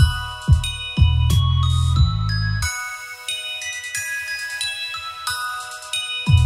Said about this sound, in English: Then I use sounds from that to, you know, emulate this ice cream truck sound and those high bells you hear.